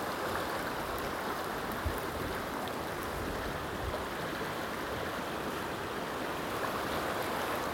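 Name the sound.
river water flowing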